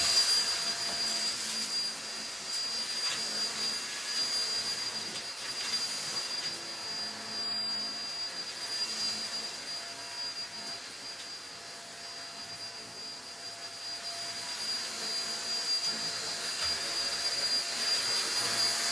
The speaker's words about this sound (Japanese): 髪の毛がちょっと舞ってるから掃除機で吸い込もうこのコードレスタイプの掃除機がめちゃくちゃ便利で、やっぱ紐で引っ張ってくるとさ大変だったりするからさ、本当に楽だなって思う。